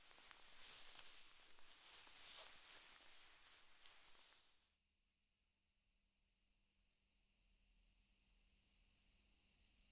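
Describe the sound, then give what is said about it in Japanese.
A dense, steady high-pitched drone of cicadas on a hot summer day fills the scene, shrill and continuous, shifting midway into a thinner, sustained hiss that swells slightly toward the end, with no voices present. “またセミもうるさくなってきたし”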